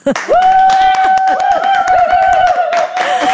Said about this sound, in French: Et voilà, ces applaudissements sont pour elle également.